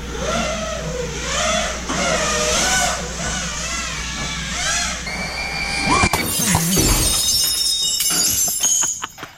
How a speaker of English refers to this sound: Let's hear what it would sound like. Yeah, I'm curious. This was trending on the YouTube. Here is a drone flying through a sliding glass door.